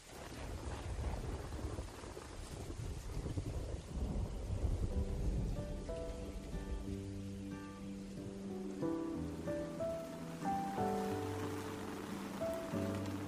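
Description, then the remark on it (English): A thunderstorm with steady rain hissing throughout and a deep, rolling rumble of thunder in the first few seconds, then soft melodic tones join over the continuing downpour. “During summer's thunderstorms, we marvel at the maple's flexibility and tenacity.”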